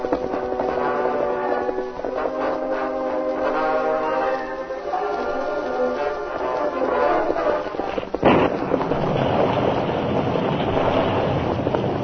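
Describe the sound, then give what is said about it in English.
Sustained, swelling musical chords give way at about eight seconds to a sudden loud crack of thunder, followed by a steady roar of wind and rain: a sudden storm in a Lone Ranger story. No one speaks. “A sudden storm came up before the Lone Ranger and Tonto reached their destination.”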